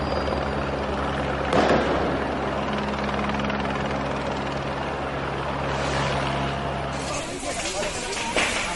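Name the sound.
police helicopter overhead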